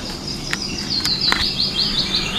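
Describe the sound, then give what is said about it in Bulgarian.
Small birds chirp in a quick, steady series of high, thin notes over a soft outdoor hush, with a few faint clicks mixed in; no one speaks. “И усещаш пърхането на птичките покрай теб. И как чуроликат на рамото ти.”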